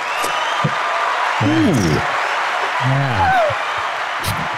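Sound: applause sound effect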